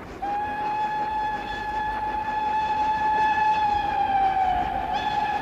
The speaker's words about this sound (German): Da! Jetzt kommt er. Wer? Da drüben, der neue Express. 8:40 Uhr. Herrgott, nochmal ist das ein Zug. Ganz schön.